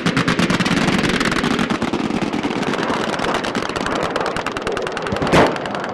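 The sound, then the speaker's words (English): Sustained bursts of rapid gunfire from outdated anti-aircraft guns used by rebel fighters in Ras Lanuf, a dense, loud clatter of repeated shots with a sharper crack near the end, no voices heard. “The outdated anti-aircraft guns the rebels were using, no match for the relentless aerial barrage.”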